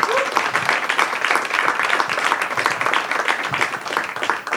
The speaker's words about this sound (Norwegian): Gi en varm applaus til regissør Iram Haq.